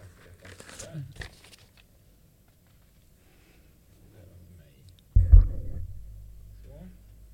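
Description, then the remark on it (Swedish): Rustling handling noise from a microphone being shifted, with soft crinkles early on, then a sudden loud bump and a low rumbling scrape as the mic is moved. “Och du drar micken till det där.”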